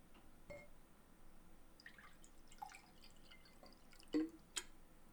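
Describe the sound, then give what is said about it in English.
Water is poured into a glass in quiet, intermittent splashes and small clinks, a few separate bursts spread over several seconds, with no one talking. “I have there's a glass here. Water.”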